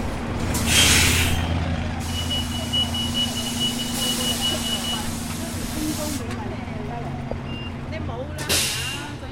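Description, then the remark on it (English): A bus rumbles low and steady as it pulls up, with a sharp, loud hiss of air brakes near the start and another short burst at the end, muffled voices in the background. “Is this your bus?”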